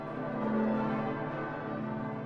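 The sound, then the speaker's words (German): A deep church bell cast in 1540, hung in the north tower and rung for the feast of Epiphany, resonates in a sustained, humming tone with rich layered overtones, steady for the whole moment with no voices. “Und die Hallerin Glocke 2 dort von 1540 ist eine der schönsten Glocken, die ich je gehört habe.”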